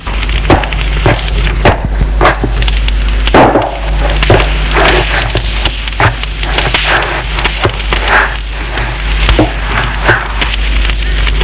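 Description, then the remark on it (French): A fireplace fire in a farmhouse crackles steadily, with irregular sharp pops and snaps over a continuous soft hiss and low rumble. No one speaks. “On l'assoit sur une chaise près de la cheminée.”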